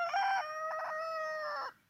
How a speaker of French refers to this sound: Ah, ça fait du bien hein, d'entendre le coq.